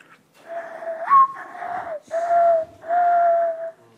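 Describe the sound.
A person imitates a mourning dove's call with four breathy, low, hooting whistled notes; the second slurs up and the last two are long and steady, with no talking.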